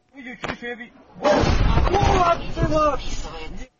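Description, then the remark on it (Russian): A voice speaks briefly, then a heavy, rumbling roar of explosions from a massive night strike of Russian cruise missiles on Ukraine breaks in and booms on for a couple of seconds, with people's voices audible through the blasts. “Очередной ночной обстрел Украины, скажете вы.”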